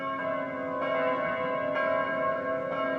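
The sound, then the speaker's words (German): A church bell rings steadily, struck about once a second, each stroke overlapping the long, resonant hum of the previous one. It's loud, with no voices. “Die Glocke läutet für jeden.”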